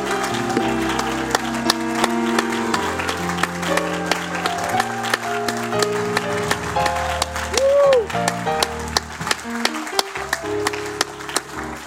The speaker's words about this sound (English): Now clap your hands and shout to God. Clap your hands and shout on the Lord.